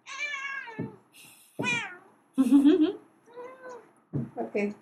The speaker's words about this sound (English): Let the cat say something, because she's going to start yelling the moment I pick her up.